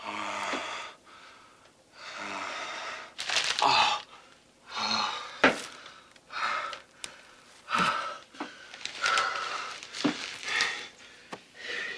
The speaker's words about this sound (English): In the bathroom, … squeezes his eyes shut for a moment, then opens his mouth, gasping for air.